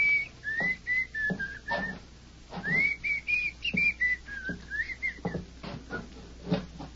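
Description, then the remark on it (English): A man whistles a slow, wandering tune in a small cabin, the pure notes gliding up and down in drawn-out phrases, with faint knocks and shuffling sounds beneath. “Dane whistled a slow tune that seemed to mock their predicament”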